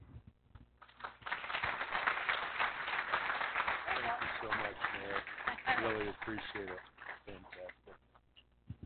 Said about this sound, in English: Thank you very much, Mayor. We are in good hands with her leadership as well. Why don't you give her one more round of applause?